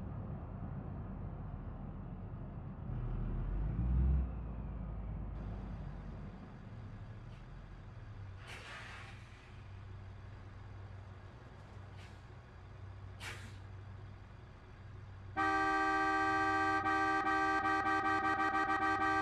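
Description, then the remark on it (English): An airport shuttle bus engine rumbles low and steady, broken by two sharp hissing bursts of air brakes, before a loud sustained tonal beeping sound joins in at the end. “Thanks for choosing the airport shuttle bus service.”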